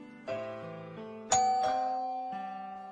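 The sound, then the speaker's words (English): An electronic doorbell chimes a short melodic ding-dong sequence of several tones, the notes ringing out and sustaining with a gentle decay, with no one talking. “Then the doorbell rings.”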